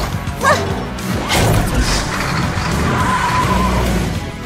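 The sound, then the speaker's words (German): A continuous rushing, scraping slide as a mixed-breed dog slides down a chute into its recycling truck, loud, with rattling clatter throughout and a short dog bark near the start, ending in a rumbling landing. “war schon auf der Rutsche und sauste hinunter zu seinem Recycling-LKW.”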